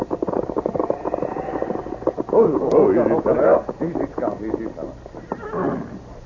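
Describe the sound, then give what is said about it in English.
A horse carrying the Circle C brand, its saddle and tracks covered with snow, whinnies with a shrill, wavering neigh in the middle, while hooves clip-clop steadily and low voices murmur in the background. “This horse carries the Circle C brand, Tonto.”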